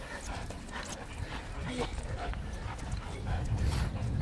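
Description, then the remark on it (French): A detection dog plays tug with a toy tube its handler threw as a reward, panting hard and letting out small whines and yips over steady scuffling and outdoor background noise, with faint voices underneath. “Le chien le chope au vol. Bingo, c'est sa récompense.”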